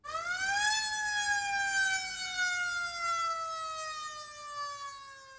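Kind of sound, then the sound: vehicle, ambulance siren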